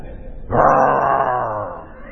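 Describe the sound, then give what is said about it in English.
A person voices a single drawn-out growling "rawr," imitating a dog growling over its food, loud, rising abruptly then fading over about a second and a half. “And you have the audacity to go, "Rawr."”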